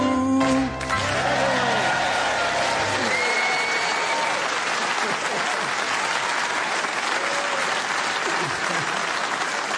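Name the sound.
audience clapping along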